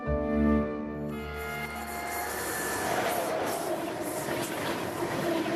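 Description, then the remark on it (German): A train rolls past, opening with a tonal horn-like chord that gives way to a steady, broad rumble and rattling of wheels on track, sustained throughout. “Mit dem Zug.”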